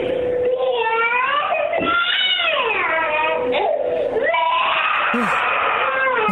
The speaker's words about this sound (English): Can we hear the big scream again?